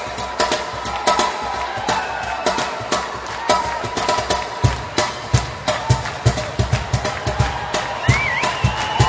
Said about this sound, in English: What is an instrument that you play? The cajon. Cajon. I want you to play a beat on the cajon. Play it, man.